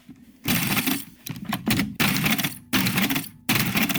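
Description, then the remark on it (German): A motorized mechanical calculator, a second-generation machine with the same mechanics as earlier models but fitted with an electric motor, clatters in loud bursts of rattling, whirring mechanism, separated by brief pauses, with sharp clicks and clunks as each cycle starts and stops. No one speaks. “Laut sind die Maschinen alle, weil sie alle mechanisch sind und scheppern und klappern.”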